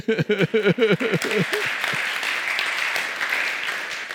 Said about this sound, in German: Beifall.